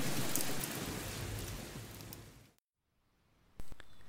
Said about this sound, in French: Une nuit reposante se passe, même si vous êtes souvent réveillé par de nombreux coups de tonnerre, tels des explosions terribles.